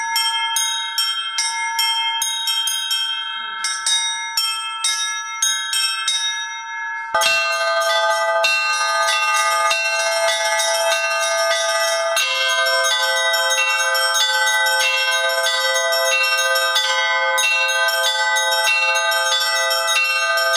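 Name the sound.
church bells being rung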